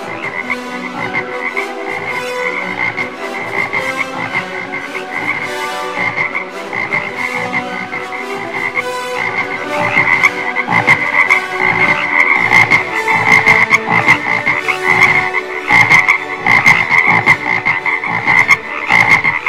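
A dense chorus of many frogs croaking continuously, with rapid overlapping pulsing calls that grow slightly louder partway through. No voices, just the steady, busy croaking throughout.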